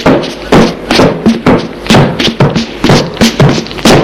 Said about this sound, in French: Il la maintient. Il tape à toutes les portes.